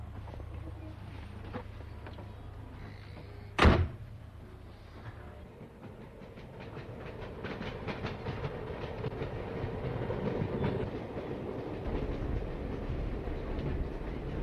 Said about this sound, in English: The train has just passed under MacNeads Bridge, which is a few miles from Kinnegad, and here the railway takes a turn to the northeast, and still following the canal